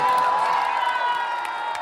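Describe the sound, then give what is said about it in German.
A large football crowd at a public viewing at Gleisdreieck in Berlin roars and cheers in celebration of a win, a loud, steady wall of many voices with whoops and shouts rising above it, sustained without a break. “Im Falle eines Sieges klingt das dann übrigens so.”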